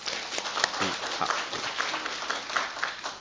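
A church audience applauds to welcome a visiting pastor, a dense, steady patter of many hands clapping at moderate volume that carries on without pause for a few seconds.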